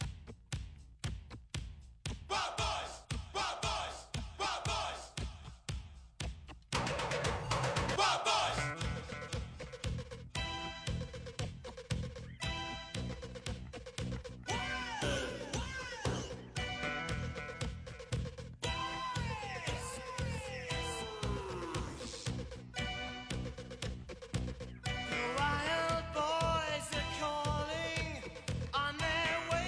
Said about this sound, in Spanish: Me encanta esta canción. Yo la pongo en el coche de vez en cuando y me vengo arriba.